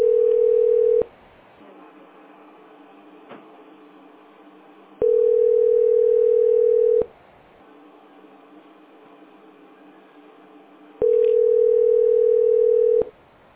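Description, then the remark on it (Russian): A telephone ringback tone on a call to the company Teploenergosbyt SPB: three steady, mid-pitched beeps of about one to two seconds each, separated by roughly four-second gaps filled with faint, muffled line noise. “А что, она звонит, что это?”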